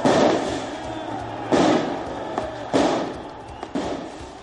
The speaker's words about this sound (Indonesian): Beberapa tembakan dilepaskan di Paris, mengeluarkan asap tajam ke udara, sementara para pengunjuk rasa meluapkan kemarahan mereka terhadap undang-undang keamanan yang akan membatasi publikasi wajah polisi.